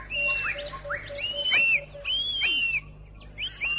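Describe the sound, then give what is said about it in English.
A bird calls out repeatedly in sharp, whistling cries that rise and fall, several in quick succession, fairly loud over a low steady background hum. “He stood undecided, and then the bird cried.”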